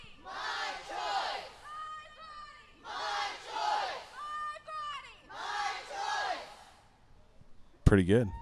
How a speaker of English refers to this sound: Here they go. There goes the crowd.